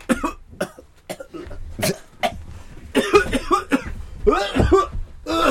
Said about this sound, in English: I've got see, look, I'm coughing.